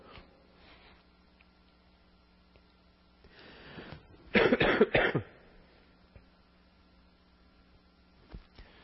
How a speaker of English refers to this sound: Every cough, I bet you it's going to be picked up louder than anything.